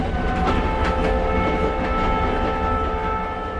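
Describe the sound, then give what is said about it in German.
Diesel locomotives rumble steadily along the old railway from Cusco through the green Urubamba valley in South America, loud, the engine drone humming under faint rattling from the wheels and cars, with no voices. “Je weiter sich die Dieselloks durch das grüne Urubamba-Tal kämpfen”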